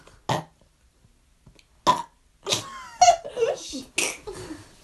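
A short, loud burp rings out, followed by another brief burst and then a stretch of giggling and laughter from other voices.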